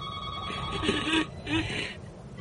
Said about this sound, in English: Phone.